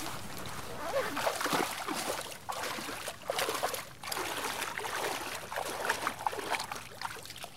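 Steady splashing and sloshing of cold water as a person wades in without hesitation to swim, with a few short pauses between bursts of churning movement.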